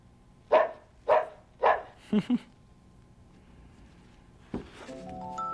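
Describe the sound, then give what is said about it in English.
Three evenly spaced, clear dog barks from a children's sound book called Animal Sounds, played by pressing a button beside the dog picture, followed by two quick thumps and a quiet pause before a steady electronic tone starts up near the end. “And when you show the animal and press the button, you can hear what the animal sounds like. A dog.”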